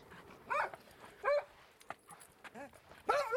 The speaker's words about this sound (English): The delighted barks of Freckles the dog.